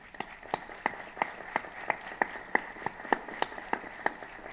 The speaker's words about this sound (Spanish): a todos los recibimos con un gran aplauso.